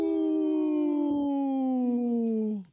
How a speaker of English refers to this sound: The little wolf that's just learning how to howl.